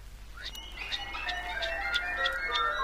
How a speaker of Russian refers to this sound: А есть такая порода уток, когда они летят, то их крылья, рассекая воздух, точно поют, или лучше сказать, посвистывают. Раздается в воздухе, тогда летит высоко над вами стадо таких уток.